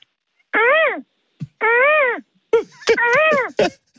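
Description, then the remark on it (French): A radio caller's voice mimics a seagull's cry: two drawn-out, nasal, wavering wails, then a burst of shorter yelping calls mixed with breathy clicks, all fairly loud with no other speech. “Alors, je vais commencer avec la mouette.”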